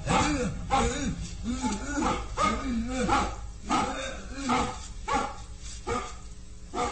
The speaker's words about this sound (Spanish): Juntos se alejan, perdiéndose entre las sombras. Los ladridos del mastín se van escuchando más lejos hasta que desaparecen.